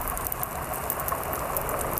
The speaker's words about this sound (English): So I suppose the most iconic would be your snapping shrimp.